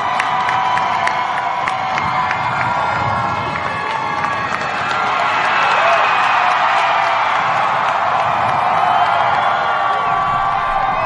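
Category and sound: crowd, crowd screaming and cheering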